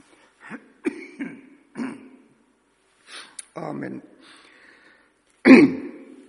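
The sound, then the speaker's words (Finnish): A run of short coughs and throat clearing, spaced irregularly across a few seconds and ending with a louder, harsher cough. A single spoken word is briefly heard. “Meinaa tuo virka yskä vähän vaivata.”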